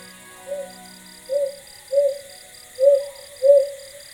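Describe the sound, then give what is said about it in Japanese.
A Ryukyu brown hawk-owl gives five soft, low hoots, loosely paired in a steady rhythm, after sunset under starlight in the countryside on the outskirts of Nago, central Okinawa Island, set against a quiet night background with a faint, thin high-pitched buzz. “星明かりの中聞こえてきたのは琉球青葉族の鳴き声です。”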